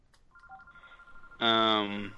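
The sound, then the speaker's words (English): The host's phone rings: a thin steady electronic tone gives way to a loud, buzzy ring burst lasting under a second, prominent. “Gentlemen, as my phone rings, how are you?”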